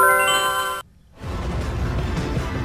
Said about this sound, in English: Is that like an instant message, like an IM? From which company? Remember what it was? I want to say like AOL.